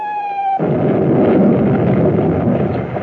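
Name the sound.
bombs exploding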